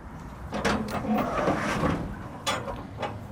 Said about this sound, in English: A metal latch creaks as Wendy Lou McGill opens a shipping container in a Denver, Colorado suburb.